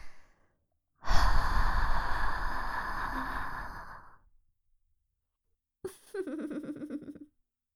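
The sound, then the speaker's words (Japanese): A long, breathy exhale blown right up against the microphone, full and airy for about three seconds, followed after a pause by a shorter, softer sighing breath. “吐 息を吹き込まれると意識が とろけちゃうかもしれないけど、 ゾクゾク感じてしまう。”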